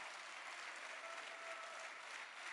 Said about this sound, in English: Come on, church, let's give the Lord a hand clap. Come on, clap your hands.